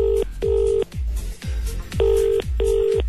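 telephone dialing and ringing

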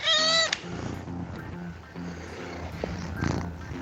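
cat meowing

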